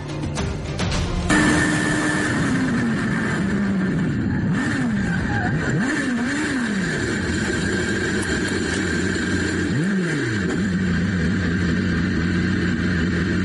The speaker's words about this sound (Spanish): Alex Palou participaba en unos entrenamientos de Super Fórmula en Japón. Iba a 305 kilómetros por hora cuando se quedó sin frenos.